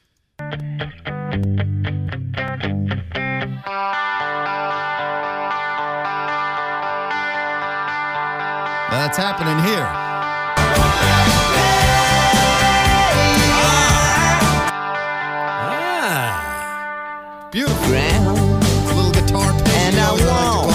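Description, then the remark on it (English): A rock song with a chiming, chorus-tinged electric guitar ringing over sustained chords, with brighter bursts of strummed texture midway and near the end; a voice briefly speaks over it. “let's listen to this little guitar part in …”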